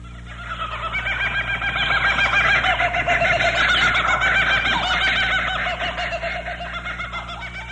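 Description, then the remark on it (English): A kookaburra, an Australian bird, gives its raucous laughing call, rapid rolling hoots and cackles swelling in loudness and then slowly tapering over several seconds, clear with no talking. “What about the laugh of the kookaburra? Kookaburra? It's a famous Australian bird.”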